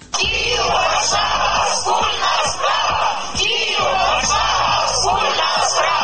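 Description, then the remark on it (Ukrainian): A large crowd shouts and chants together outdoors on the main squares and streets of Warsaw, Poland, on a Sunday, in solidarity with the Euromaidan in Kyiv, a loud, continuous roar of many voices with rhythmic surges, like a street rally. “Такі вигуки лунали в неділю на головних площах і вулицях Варшави на знак солідарності з київським Євромайданом.”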